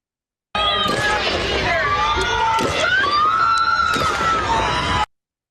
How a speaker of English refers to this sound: And let's see if we can turn off some of the screaming. Where's the anti-scream filter?